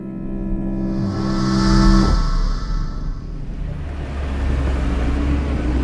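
car engine rumbling

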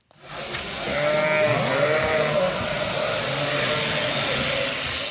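sheep bleating

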